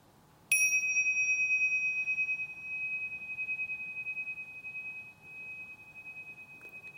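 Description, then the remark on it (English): A gong is struck once and rings out with a bright, shimmering metallic tone that sustains and slowly fades across several seconds, heard alone without any talking. “the class was invited to listen to the sound of a gong”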